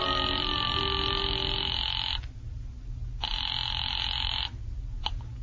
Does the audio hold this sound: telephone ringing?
yes